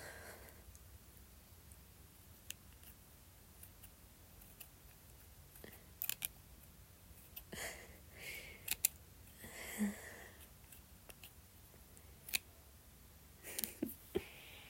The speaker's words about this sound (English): These aren't exactly safety scissors.